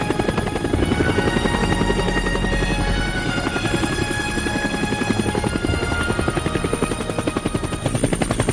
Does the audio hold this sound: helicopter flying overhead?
yes